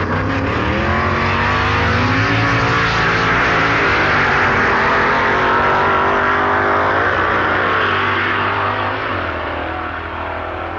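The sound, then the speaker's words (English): A loud drag racing car engine, on a Dodge or Mercury Comet factory experimental saloon, roars continuously as it accelerates hard, its pitch climbing and then briefly dropping at a manual gear change before pulling again, with no voices. “Firstly, Dave Strickler and Ronnie Sox, who delighted us with their faultless displays of manual gear changing on the Vast Dodge and Mercury Comet factory experimental saloon.”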